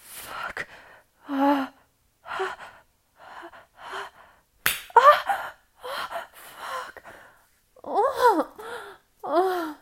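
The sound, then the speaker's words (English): A single sharp slap of a hand on the clit cuts in midway, surrounded by repeated breathy gasps and moaning vocal sounds with short pauses between them. “Think I should slap my clit? You wanna listen?”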